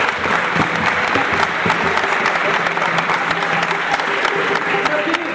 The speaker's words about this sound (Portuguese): Beleza, uma salva de palmas aqui, chega aqui na cadeira.